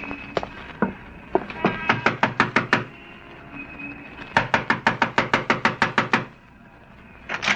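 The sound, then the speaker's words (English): Someone raps on a landlady's door in two insistent bursts of quick, evenly spaced knocks, loud, with a few scattered taps beforehand and a short pause between the bursts. “Yeah, stop your knocking.”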